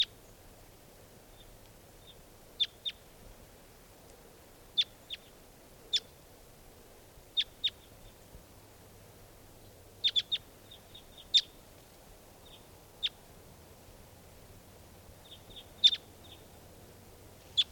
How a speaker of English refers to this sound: There they go. Well, there are three. Yeah, just two birds.